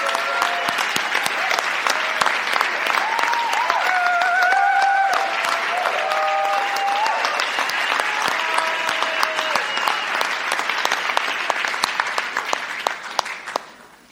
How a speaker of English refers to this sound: I would love for you just to stand up so that we can honour you and thank God for you. So be brave. Let's clap these lovely women.